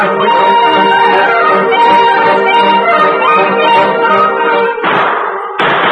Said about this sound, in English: Three shots. The signal. East of here. Come on. Mount up while I pass the word with gunfire. Oh, shots rang through the woods as each band of hunters heard the signal and then fired.